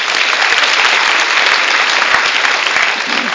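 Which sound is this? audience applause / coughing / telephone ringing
audience applause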